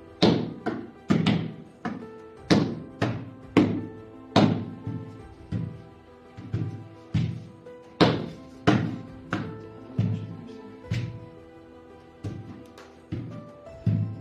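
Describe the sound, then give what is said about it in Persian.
A steady sequence of sharp hand claps and slaps, some dull thuds from hands hitting a surface, from players doing a slow test round of a hand-clapping elimination game, repeating in a brisk, even rhythm for over a dozen seconds with no talking. “هر دستی که روال عادی دست زدن ها رو انجام نده، از بازی حذف میشه”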